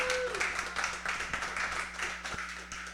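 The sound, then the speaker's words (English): A crowd at the Jenks Building applauds Mayor Don Walter steadily, many hands clapping together in a dense, continuous patter of even loudness that holds for the whole few seconds. “We could do a round of applause now for Mayor Don Walter.”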